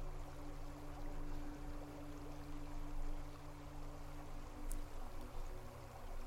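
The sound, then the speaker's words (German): Water flows and babbles steadily throughout, a continuous soft rush with a low, sustained musical drone humming beneath it. No one speaks. “Jeder Klang der Musik, jeder Ton des Wassers und jedes Wort lösen mehr und mehr die Glückseligkeit in dir aus.”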